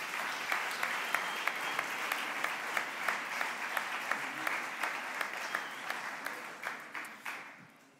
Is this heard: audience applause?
yes